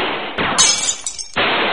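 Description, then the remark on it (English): Window glass shattering: a sudden loud crash breaks into a bright, high spray of tinkling fragments that fades within about a second, set against a steady hiss. “It is the window!”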